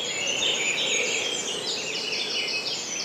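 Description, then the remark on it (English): A dense dawn chorus of many birds singing at once, overlapping high chirps, trills and whistles forming a steady, continuous wash of song with no voices. “While you let the beautiful bird song wash over you”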